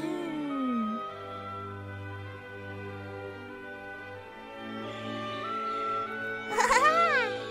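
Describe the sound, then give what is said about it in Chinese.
Calm, sustained orchestral prelude over a steady low drone, with a brief cuckoo call near the end: a few quick arching whistled notes that rise and fall in pitch above the music. “我听到布谷了耶。”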